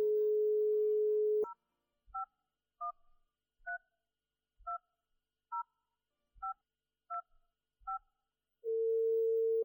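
A steady phone dial tone gives way to ten quick keypad beeps tapped in an uneven rhythm as a number shown on a television screen is dialed on a mobile phone, followed by a continuous line tone as the call connects. No voices.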